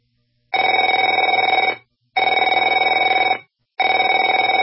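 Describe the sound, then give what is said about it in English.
A telephone rings in three long, steady bursts with short gaps between them, a loud buzzing bell tone with no voices. “Afraid to answer it?”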